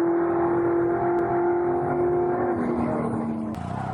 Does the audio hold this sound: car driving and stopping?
yes